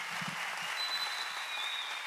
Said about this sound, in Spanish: aplauso que se escuche fuerte. Como un homenaje a la música.